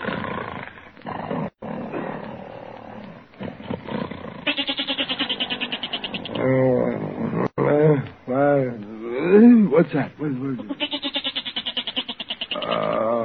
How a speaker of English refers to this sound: listen to that goat, Peg. He's been baaing all night